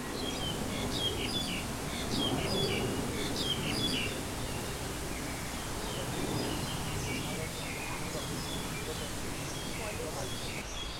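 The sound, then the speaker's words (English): Many birds chirp and tweet in quick, overlapping bursts throughout in Kowloon Park, Hong Kong, set against a steady murmur of city background noise and faint voices. “I'm not making those bird sounds up. Those are actually the birds.”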